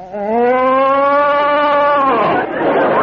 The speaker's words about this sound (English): Baby, it's a cow.